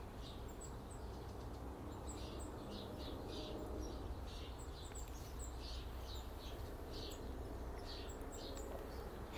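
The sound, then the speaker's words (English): Several birds chirp in quick, repeated bursts throughout on a Boxing Day morning, fairly faint, over a steady low outdoor rumble and hiss. No one speaks. “And the birds are having a nice morning.”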